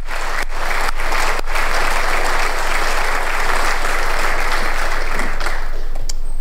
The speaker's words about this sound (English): And she appeared in the public gallery of the Dáil this week, where she was given a standing ovation as she tried to put pressure on politicians.